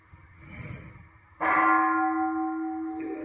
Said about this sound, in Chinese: 去看去听，然后去那个包括听到声音，我们的心马上就会跑到那个钟声里面去，大家去体会一下，马上就不跑就去了，那心就走跑掉了。